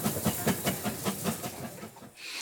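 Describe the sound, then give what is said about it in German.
A steam locomotive in the Harz mountains, Germany, on the railway up the Brocken, hisses steadily, with a quick run of rhythmic steam chuffs pulsing beneath the broad hiss before it briefly drops away near the end. No one speaks. “Doch die Dampflokomotiven im Harz, sie werden wohl bleiben.”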